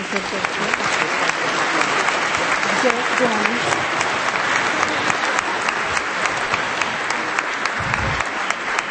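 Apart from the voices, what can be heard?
loud audience applause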